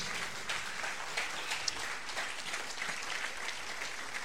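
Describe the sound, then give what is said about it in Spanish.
A church audience applauding Christ steadily, a dense wash of many hands clapping at once, sustained and fairly loud throughout with no talking over it. “Fuerte aplauso a Cristo.”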